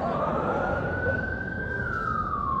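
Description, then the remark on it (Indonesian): An ambulance siren wails loudly and steadily over a broad rumble of road noise, its pitch sliding slightly upward and then dropping as the vehicle passes. “Kalau ambulan lewat, dulu ada orang sakit atau pejabat lewat.”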